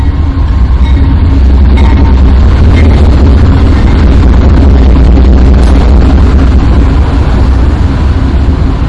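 A train rolls past with a loud, continuous low rumble and a dense clattering hiss that holds steady for the whole stretch, with no voices over it.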